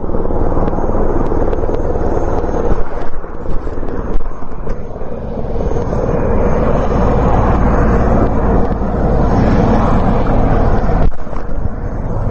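KFOR helicopters ferrying customs officers to the Brnjak and Jarinje crossings in northern Kosovo in the early morning make a loud, steady roar of engine and rotor noise with a heavy low rumble and a windy rush, unbroken from start to finish and with no voices.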